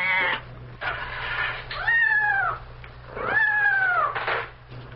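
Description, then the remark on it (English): A cat yowls loudly and repeatedly after being nicked by an onion thrown out of a window, with drawn-out rising and falling wails with strong harmonic tones and several distressed cries in a row. “I think the onion nicked the cat.”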